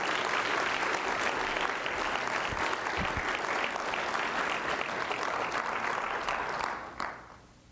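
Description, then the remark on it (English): An audience at a worship service applauds a man for his courage, a dense wash of steady clapping that holds at an even level for about seven seconds before tapering off quickly at the end. “Give him a round of applause for his courage, right?”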